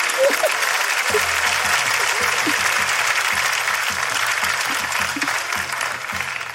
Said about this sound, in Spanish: Fuerte aplauso para ellos, muchas gracias.